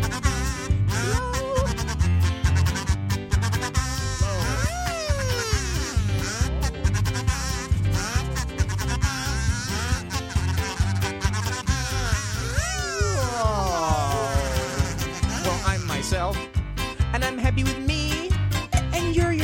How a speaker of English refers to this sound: You like blowing on kazoo. Blow. Blow.